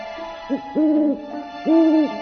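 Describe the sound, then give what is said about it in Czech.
An owl hoots: a short note followed by two longer, drawn-out hoots, over a faint steady hum with no one speaking. “Sad je dosta, skoro je viknula sova.”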